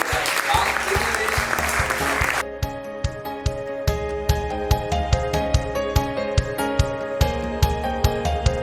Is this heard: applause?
yes